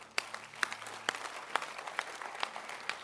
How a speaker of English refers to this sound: And of course, clap your hands for God.